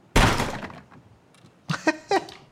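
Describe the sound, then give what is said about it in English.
A heavy, loud thud from a door being kicked, with a broad burst of noise that rings briefly, followed by a few quieter clunks and rattles. “I kicked the door.”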